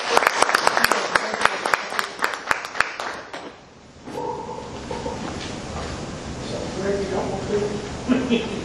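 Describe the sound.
An audience breaks into applause, a dense burst of hand claps lasting a few seconds before it fades and a voice starts talking over faint room noise.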